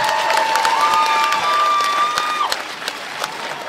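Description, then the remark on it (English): A crowd applauds in a dense, steady patter of many hands, with a shrill sustained whistle riding over the first two-thirds before the clapping carries on alone. “Little applause to get it going.”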